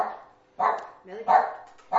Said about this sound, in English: Now, tell that dog to be quiet.